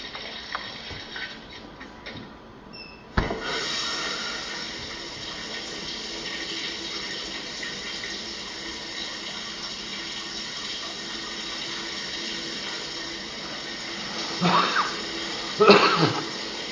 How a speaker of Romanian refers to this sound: Personajul feminin care se bucură de un duș, nu-i așa? Toți ne bucurăm de această mică plăcere a modernității.